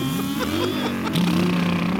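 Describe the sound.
A voice imitates motorcycles pulling up outside on a stoop, a buzzy, droning engine rumble with rising and shifting pitch that holds steady for about two seconds, fairly loud.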